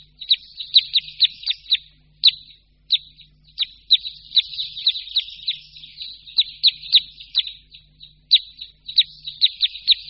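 Red crossbill flock contact calls: many sharp, high chip notes overlapping in quick irregular bursts, clear, with no voices or other sounds.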